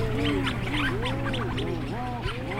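Rhinoceros auklets mooing in a seabird colony as they come out of their burrows to socialize: overlapping low, groaning calls that swoop up and down in pitch, several birds at once over a steady low hum, with no talking.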